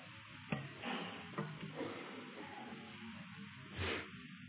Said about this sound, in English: Ezekiel chapter 9, page 836. I love the sound of rustling pages.